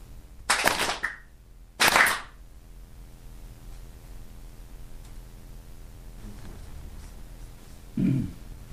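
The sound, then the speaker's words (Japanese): Two sharp, bright ritual hand claps at a shrine during prayer, about a second apart, ring out over a steady faint hiss, followed by a long quiet stretch and a soft low thump near the end. “次に2度拍手をお打ちの上手を合わされまして深くお祈りくださいませ。”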